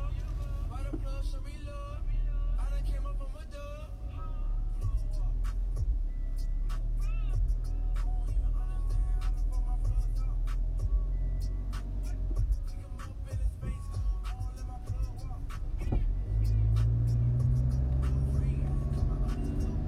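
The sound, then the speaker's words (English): A car drives through city traffic in San Francisco with a steady engine and road rumble. Scattered clicks and faint high squeaks come through, and the rumble deepens toward the end. “I'm driving past what used to be the Tower Records here in San Francisco”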